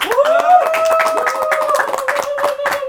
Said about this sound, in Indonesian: Tepuk tangan.